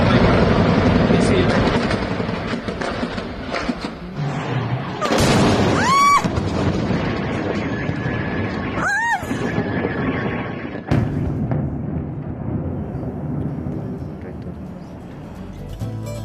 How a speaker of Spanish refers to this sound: Sobre la 1:50 de la madrugada, en varios puntos de Caracas, se empezaron a escuchar estas explosiones. Ese fue el sonido que retumbó ante el bombardeo en varias instalaciones militares por parte de los Estados Unidos,